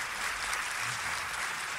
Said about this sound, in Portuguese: Uma salva de palmas para a equipe de produção ali.